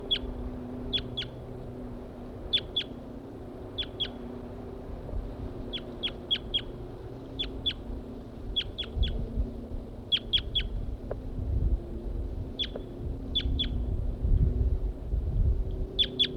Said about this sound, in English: Stop. I've located the birds again. This is a wild male.